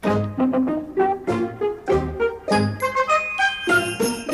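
Sleigh bells jingle brightly along with a bouncy, rhythmic musical intro, the chiming sparkle riding on top of steady instrumental notes. No one speaks.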